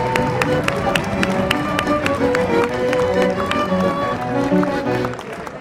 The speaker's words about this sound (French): La réunion va commencer. Qui est-ce qui arrive ? Claude Goasgen, député de Chédien. Il est applaudi.